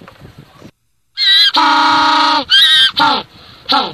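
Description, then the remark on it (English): A loud, brassy Adelie penguin mating call: one long braying honk, then a run of shorter, rising honks, prominent after a brief murmur and a moment of silence. “It's the mating call of an Adelie penguin.”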